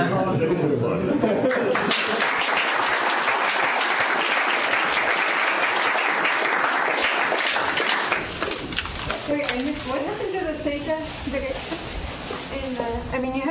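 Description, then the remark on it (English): An audience claps steadily in a dense, sustained burst of applause for several seconds; it fades as a voice begins speaking over the tail end. “Should we applaud?”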